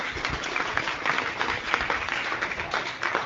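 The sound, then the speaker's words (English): A crowd at a chamber of commerce gathering applauds its new members steadily, a dense wash of many hands clapping at once that holds at an even, moderately loud level throughout without pause. “How about a round of applause for them?”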